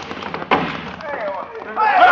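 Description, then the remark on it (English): A heavy stockade gate slams shut with one sharp, booming impact, followed by a low rumble and indistinct voices rising toward the end. “Now, Palomino, close the gate fast.”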